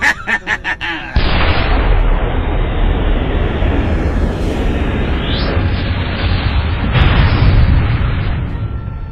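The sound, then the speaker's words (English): A rapid burst of sharp pops gives way to a loud, sustained explosive roar with crackling debris and rumbling low end that stays heavy for several seconds: a rocket launcher fired at an enforcer drone, scoring a direct hit. “Pass me that rocket launcher.”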